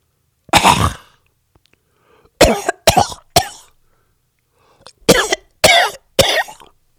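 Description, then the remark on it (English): A voice imitates a woman's coughing at a quiet symphony concert: one harsh cough, then a tight burst of three, a pause, and another quick run of three, loud with silence between. “There's a cough directly behind my head.”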